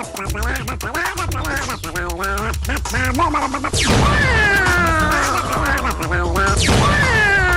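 Loud, busy duck-like quacking mixed with rapid clicking and layered tones, broken by two harsh crashing bursts midway and near the end; no one speaks.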